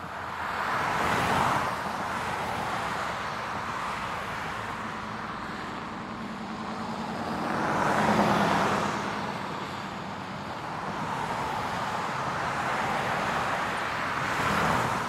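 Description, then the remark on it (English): Steady road traffic rumbles in the background as several cars swoosh past one after another, each swelling louder then fading, with a constant hiss of tires between passes and no voices. “Imagine right now that there's traffic around you.”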